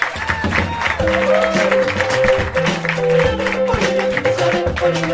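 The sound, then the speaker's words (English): An audience applauds steadily for about five seconds, a dense, continuous clatter of clapping with sustained musical tones playing underneath and no clear speech. “I want more applause for our panel.”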